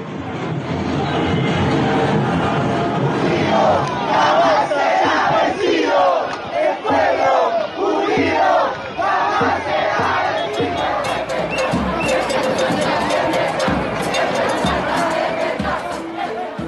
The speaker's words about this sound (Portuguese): Sons de uma multidão que tomou o centro de Santiago com bandeiras do Chile e dos Mapuche para celebrar um resultado histórico.